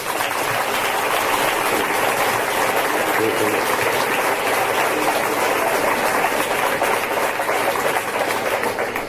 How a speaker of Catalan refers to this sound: Un fort aplaudiment.